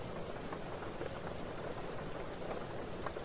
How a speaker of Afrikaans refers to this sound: Dan sit ons maar vir eers so en luister vir die reën.